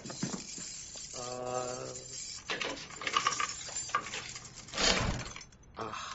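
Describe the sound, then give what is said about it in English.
A big ring of keys jingles and clinks, with bright metallic rattles coming in irregular bursts and a brief ringing tone partway through, as someone finds and grabs the keys in a hurry. “I was hoping it'd be one of these big ring of keys.”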